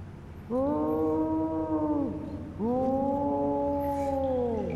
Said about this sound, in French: D'abord, Flash pensa que ce hurlement n'était que le vent qui sifflait dans les tunnels et les fissures de la grotte. Ce son étrange fit frissonner l'intégralité du châssis de Flash.